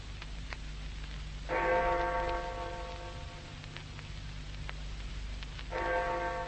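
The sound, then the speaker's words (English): A clock bell strikes two o'clock, each deep resonant chime ringing out with a long humming decay over a low background hum, the two strokes about four seconds apart. “Two o'clock.”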